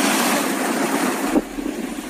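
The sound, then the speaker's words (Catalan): A steady, loud rush of boat engine noise from about twenty boats chasing and surrounding a group of three whales off Cap de Creus in the afternoon, mixed with wind and water, the tone shifting to a lower, rumbling drone partway through. No voices stand out. “Escolteu ara aquest enregistrament, soroll de barques en marxa, també algun crit de gent.”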